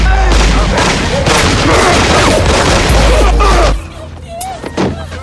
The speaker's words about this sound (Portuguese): E agora vou atirar sem perdão. Embora tá escuro, não vejo quase nada, somente o vulto se aproximando cada vez mais da porta.